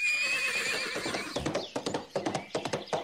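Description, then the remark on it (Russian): A horse being led out whinnies with a high, wavering neigh, then hooves clop in a quick, uneven rhythm of sharp knocks, fairly loud, with no voices. “Грамоту зашил в шапку, вывел коня, чмокнул жену и двух своих, как сам он называл, поросенков, из которых один был родной отец хоть бы и нашего брата, и поднял такую за собою пыль, как будто бы 15 хлопцев задумали посреди улицы играть в кашу.”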